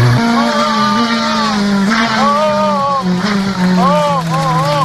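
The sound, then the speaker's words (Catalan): A car engine holds a steady, loud drone while tires squeal in repeated high, wavering bursts as a radio presenter drives fast through curves. “I ara, amb tots vostès, un locutor que condueix d'una manera que faria esgarrifar a Josep Pedrerol.”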